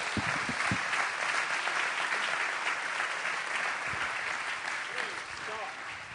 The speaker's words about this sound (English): Then why don't you give the Lord one more hand clap.